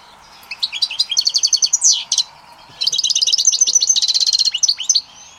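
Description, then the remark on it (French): A small caged songbird sings two bright, rapid trilling phrases separated by a brief pause, clear, with a soft, melodious quality and no voices. “Son chant est doux et mélodieux.”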